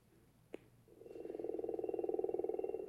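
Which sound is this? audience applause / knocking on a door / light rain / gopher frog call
gopher frog call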